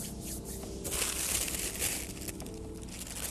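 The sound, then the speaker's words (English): Continuous crinkling and rustling of paper and tissue paper being handled, folded and twisted to make a paper bow tie, with bright crackly bursts swelling midway through. No one speaks. “Maybe I could make a bow tie out of paper like this.”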